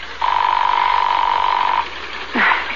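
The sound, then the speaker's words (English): A telephone ringing tone on a call dialed to a home: one long, steady, mid-pitched electronic tone that holds for about a second and a half, then cuts off, followed by a brief, rough burst of sound. “It's ringing.”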